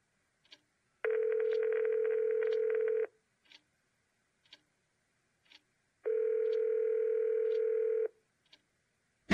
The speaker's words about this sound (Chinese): 他一手揽住我的腰，一手拿出手机，找到一个号码打了出去。